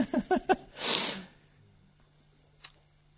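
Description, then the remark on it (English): A single sneeze: a few quick catching breaths followed by a loud, breathy burst, then near silence with one faint click afterward. “Bless you”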